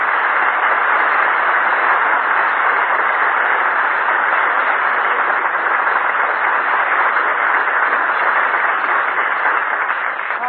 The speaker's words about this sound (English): So did everybody in the drugstore. They all applauded. Yeah, they all applauded.